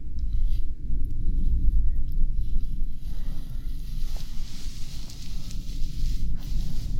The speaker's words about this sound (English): The thunder seems to be rolling away.